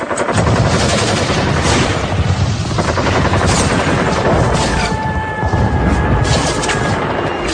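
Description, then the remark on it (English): Dense, continuous cannon and machine gun fire roars loudly, rapid bursts overlapping with heavy booms and a brief high whistling tone, no voices, as Israel strafes the decks of the USS Liberty, an unarmed NSA spy ship in international waters off Sinai, on June 8. “They drop napalm and strafe its decks with rockets, cannon fire, and armor-piercing rounds before trying to sink it with torpedoes.”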